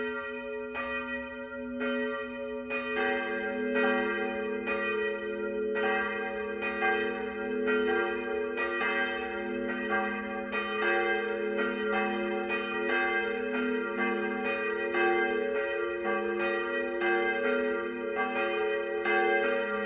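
Monastery church bells at Tegernsee ring at night in a full, steady peal, their strikes coming in quick succession and overlapping into a rich, sustained hum that continues throughout with no voices.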